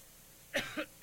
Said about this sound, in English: That was the push to cough button, and cough I did.